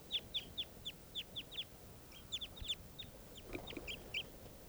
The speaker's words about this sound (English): This is one of the birds that's calling here. Stop recording. Wild birds.